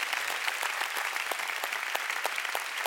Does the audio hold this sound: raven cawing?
no